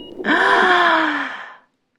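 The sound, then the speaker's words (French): A tiny newborn baby girl in an incubator lets out a single drawn-out moan with a sharp gasping onset, thin and strained, trailing off after about a second and a half, alone, as doctors are about to disconnect her. “Et tous d'entendre un gémissement et les bâillements à la corneille de la si petite bouche”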